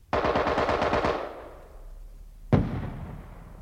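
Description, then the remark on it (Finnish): A rapid burst of automatic gunfire from the enemy, around ten shots in quick succession, rolls away into a long echoing tail before a single loud report cracks out and reverberates. “Ensin ampui nimittäin vihollinen muutaman sarjan ja sen jälkeen ampui levottomaksi tullut naapurivartiomies myöskin raketin.”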